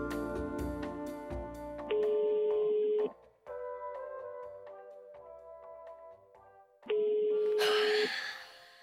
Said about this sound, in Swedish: Så jag ringer upp John D. Eastwood i Toronto